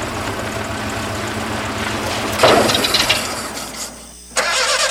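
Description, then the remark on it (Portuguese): A car engine cranks and strains without catching: a steady grinding churn, a louder sputtering surge partway through, a brief drop to near quiet, then the cranking starts again. No one speaks. “O carro não dá partida?”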